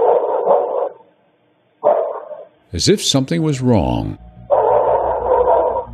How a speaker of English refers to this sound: A dog began to bark